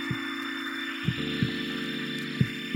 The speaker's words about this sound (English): It begins almost in nothingness, this sort of quiet, you know, crickets chirping. And this heartbeat starts.